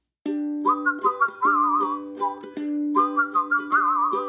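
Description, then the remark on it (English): A bright, warbling whistled tune with bird-like trills and wavering notes, played over a steady sustained drone, continuous, with no talking. “Two little birds were whistling about something and nothing and anything.”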